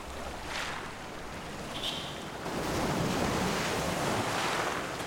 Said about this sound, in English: You'll always remember the healing, the extraordinary, the soothing waves of the ocean as she guides you on your own personal journey.